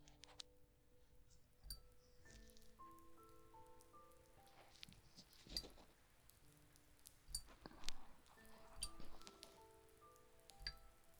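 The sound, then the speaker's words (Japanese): Rainwater drips from a leaking roof in an abandoned building at an irregular pace, each quiet drop landing with a soft plink, several ringing on as lingering musical tones. No one speaks. “廃墟だから雨漏りは仕方ないんだけど、こんな楽しみ方もあるんだよ。”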